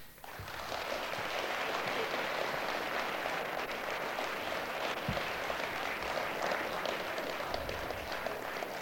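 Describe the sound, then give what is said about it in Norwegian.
A steady patter of applause from part of an audience, moderately loud and continuing for several seconds without any speech, as a small part of the audience claps for a speech. “Det er godt, kamerater og venner, at det bare er en liten del som klapper for sånne innlegg.”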